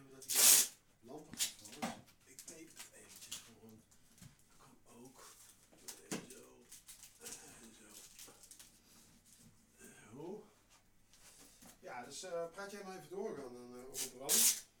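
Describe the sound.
Brief scraping and rubbing bursts of a lamp being shifted and adjusted in a makeshift studio under renovation, with one loud burst at the start and another near the end while people talk throughout.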